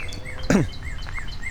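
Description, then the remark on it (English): A bird chirps repeatedly right above the listener in short, rising-and-falling notes, with one louder, sharper call early on, all over a steady outdoor background hiss at a billabong. No one is talking. “including that bird who's chirping right above me.”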